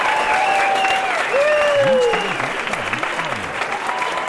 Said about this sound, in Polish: Tutaj przydałyby się jakieś brawa.